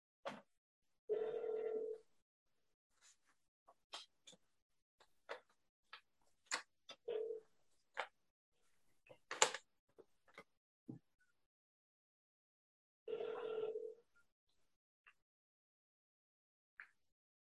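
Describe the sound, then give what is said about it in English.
Two steady electronic ringing tones from a phone on speaker, about twelve seconds apart, with scattered sharp clicks and taps in between and no talking. “My phone only works on speakerphone, so you'll all get to hear me.”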